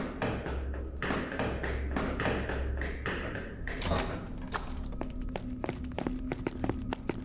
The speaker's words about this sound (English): Before I could get through the stairwell door, it yanked itself forward by some unseen force and slammed closed. I rammed into the bar, but it didn't budge.